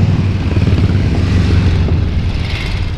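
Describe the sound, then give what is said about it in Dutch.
A group of motorcycles, led by a Triumph, rumbles past, their engines blending into a loud, steady, low growl with a slight shift in pitch as they pass. No one speaks. “Nou, er komen weer wel een groep motoren.”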